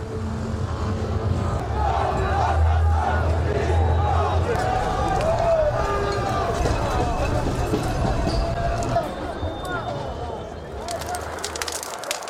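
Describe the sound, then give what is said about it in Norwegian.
A loud crowd of yellow-vest protesters gathering by a bonfire in the heart of Paris on a Saturday, many overlapping voices forming a dense, steady din over a low rumble, with scattered sharper clatters toward the end. “Demonstranter med gule vester samler seg.”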